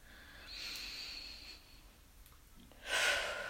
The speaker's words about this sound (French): À l'inspiration. Respiration, respiration énergique.